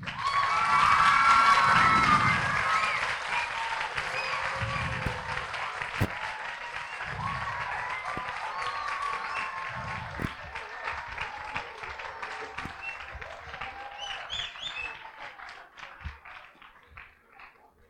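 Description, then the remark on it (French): A crowd applauds loudly for the candidates as they are asked to come forward, with scattered cheers and whistles, a dense wash of clapping that starts strong and gradually tapers off over several seconds. “On peut les applaudir.”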